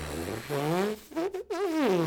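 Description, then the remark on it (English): A trombonist buzzes his lips in a daily warm-up before playing, a raspy, reedy tone like a Bronx cheer sliding up and down in pitch across a few short phrases separated by brief pauses. “On a daily basis, I will do a little bit of make a sound with your lips.”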